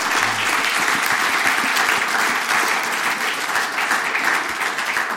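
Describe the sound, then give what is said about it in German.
A crowd applauds steadily for about five seconds in appreciation of the Bible teaching, a dense, even wash of many hands clapping at a constant loudness with no voices standing out. “Dann könnten wir doch gerade mal einen Applaus aber sein für den biblischen Unterricht.”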